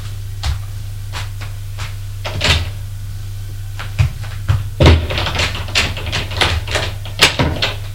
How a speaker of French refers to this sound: Et elle a refermé la porte à clé.